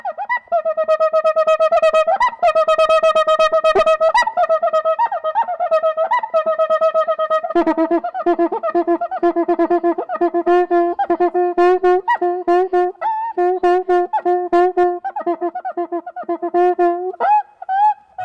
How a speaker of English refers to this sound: Is it called also the monkey drum? Yeah. Because the sound sounds like monkeys, but I also saw a guy that made it sound like a dog barking. Yep. Yeah, so it's the construction of the drum. So it's usually quite small.